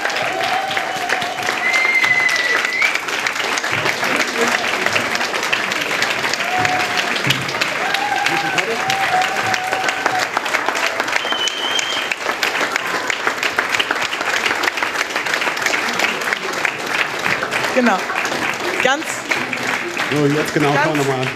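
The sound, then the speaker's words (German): A crowd applauds the mentors steadily for about twenty seconds, a dense, even wash of clapping with occasional whistles and cheers rising above it. “Einen herzlichen Applaus für die Mentorinnen und Mentoren.”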